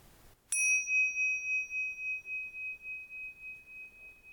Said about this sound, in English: And for this practice, we'll use the bell to focus and to mark the start and the end.